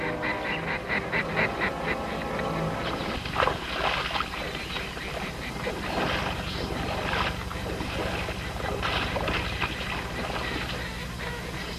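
A flock of ducks on a marsh quacks steadily on open water, their calls overlapping in a busy, continuous chorus, with a low steady rumble underneath and no talking.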